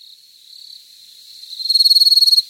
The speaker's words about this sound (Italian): I grilli cantavano, centinaia di lucciole sembravano rincorrersi nel pratone qui sotto.